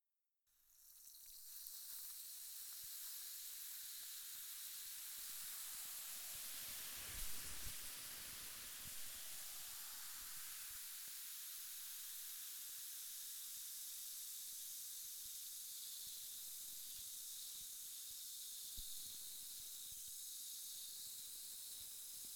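A spray hisses steadily, a bright, continuous rush of air that starts abruptly and holds at an even loudness for about twenty seconds, with no voices.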